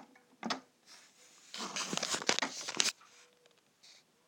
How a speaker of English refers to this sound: You can hear it clicking. What it's doing is working out what drink I've put in the machine, what pod. It reads the barcode on it. And it's heating up the water as well.